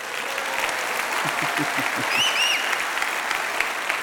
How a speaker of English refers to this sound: Morning, family. Are you all well? Was that an applause? Just wondering.